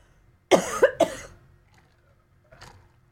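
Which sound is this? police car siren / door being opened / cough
cough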